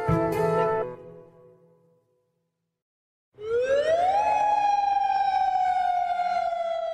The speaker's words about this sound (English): Every day at 7 p.m., we hear the sound of the sirens. This is the same alarm that would be used in case of war. And it lasts for about 5 minutes.